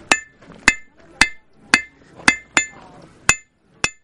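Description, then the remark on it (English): A blacksmith, making tools by heating metal over fire in a demonstration at a celebration, hammers metal with about eight sharp, ringing strikes at an uneven, steady pace, each blow leaving bright metallic overtones that fade quickly into a faint background murmur. “A blacksmith making tools by heating metal over fire.”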